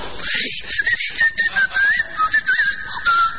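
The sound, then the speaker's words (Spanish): An aerosol can of oven cleaner sprays into a hot oven in a series of short hissing bursts, its airy rush carrying a thin, wavering whistle-like tone; no one speaks. “No, señores, es el aerosol del limpiahorno.”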